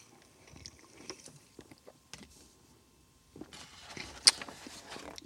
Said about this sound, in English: Let me grab a sip here, my sparkling bubbly.